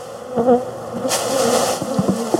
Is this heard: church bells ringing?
no